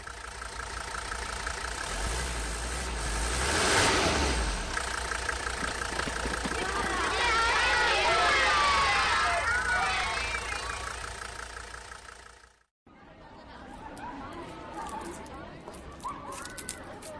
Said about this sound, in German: Wir sind gleich da. Nur noch 10 Minuten. Der Bus fährt in den Innenhof von Burg Borkenstein.